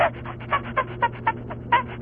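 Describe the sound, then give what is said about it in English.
A person imitates chimpanzee noises: a rapid, rhythmic run of breathy, panting hoots, about eight pulses in two seconds, rising and falling in pitch with a steady low hum underneath. “You just went into a whole chimpanzee routine.”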